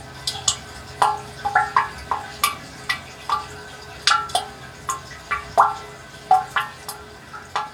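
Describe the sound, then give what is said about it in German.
Water drips steadily inside a spring water catchment, each drop a bright plink with a short ringing tail, falling irregularly at roughly two or three per second over a faint hum. “Und da konnte man hören, wie die Wasserfassung, wie es klingt in der Wasserfassung und konnte das auch noch ein bisschen verstellen.”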